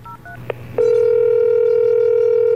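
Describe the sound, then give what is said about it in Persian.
A few quick touch-tone beeps of a phone, picked up from a bed, being dialed, a click, then a loud, steady ringing tone holding on continuously. No one speaks. “همونجا رو تخت گوشی رو برداشتم و شمارش رو گرفتم.”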